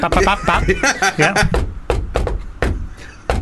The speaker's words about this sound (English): I don't know if the knock actually picked up on the camera.